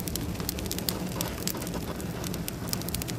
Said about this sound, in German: Am Backtag brennt das Feuer schon morgens um 8 Uhr im Backhaus.